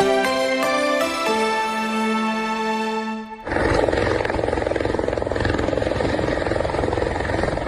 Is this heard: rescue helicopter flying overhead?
yes